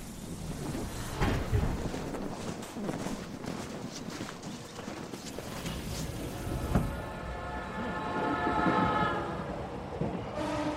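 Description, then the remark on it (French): A Marunouchi Line subway train heading toward the city centre at rush hour rumbles steadily along, then a layered electric whine rises over the clatter in the second half, holding at several pitches while the rolling noise continues. No one speaks. “Un parapluie à la main, il prend la ligne Marunouchi en direction du centre-ville.”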